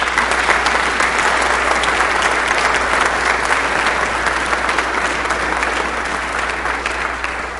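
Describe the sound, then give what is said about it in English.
An audience applauds steadily for several seconds, the dense clapping of many hands sustained at an even level throughout, fading only slightly toward the end. “So, congregation, join me with a big applause.”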